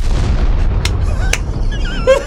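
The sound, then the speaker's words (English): A loud, rumbling explosion sound effect with heavy low-end roar and crackling debris, followed by a couple of sharp bursts and whistling high tones trailing off near the end. “Isn't that a great explosion?”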